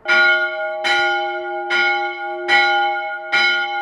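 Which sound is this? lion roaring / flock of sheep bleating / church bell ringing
church bell ringing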